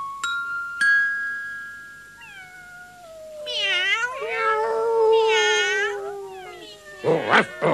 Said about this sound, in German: Hilfe! Am Gartenzaun hocken mindestens 100 Katzen.